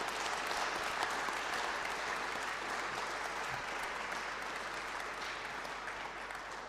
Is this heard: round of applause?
yes